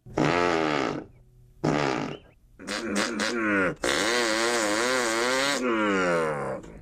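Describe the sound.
A man's voice imitates a 2-horsepower chainsaw: loud, buzzy revving bursts that start and stop, then a long sustained drone with wavering pitch, with no other sound.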